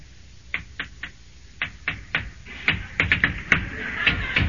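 Knocking on a door: a series of sharp raps in uneven bursts, growing quicker and more insistent toward the end, with no voices.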